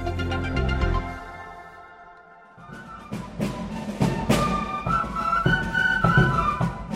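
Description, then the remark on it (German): Fife and drum band playing at the 25th Swiss federal drummers' and fifers' festival in Interlaken: shrill piping melody over sharp, steady snare-drum strokes, fairly loud, with no voices. A brief sustained tonal chord precedes it. “Sättige Klänge waren in den letzten drei Tagen zu Interlaken zu hören. Am 25. eidgenössischen Tamburen- und Pfeiferfest.”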